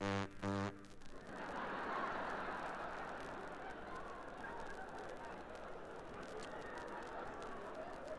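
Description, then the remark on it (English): A diesel electric locomotive horn sounds two short, loud blasts at the start, then gives way to a steady roaring rumble of the train that continues to the end. “Can you imagine anything more lonesome sounding on a cold night when you're alone than a diesel electric?”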